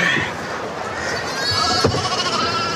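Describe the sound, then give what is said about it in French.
A flock of sheep bleats in overlapping, wavering cries, several animals calling at once amid a busy, noisy outdoor background, as the sheep are loaded to be moved by a winch with a lifting arm at the top of a cliff. “je reste prêté main forte à Bjarni pour charger les moutons”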